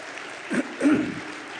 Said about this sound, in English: I don't think you get to applaud her very often, so it'd be good to have you stand